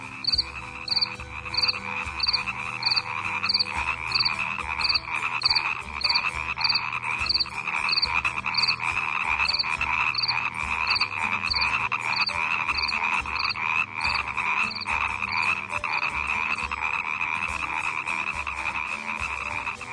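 A dense chorus of frogs croaking continuously, with a steady pulsing call repeating about twice a second over a thick, buzzing wall of calls, fairly loud, no voices.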